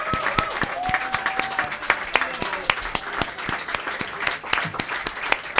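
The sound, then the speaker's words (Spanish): An audience applauds a band steadily, many overlapping claps forming a dense, crackling wash that holds at an even level throughout, with a brief whistle-like tone and faint voices mixed in early on. “Un abrazo nuestro, un aplauso vuestra.”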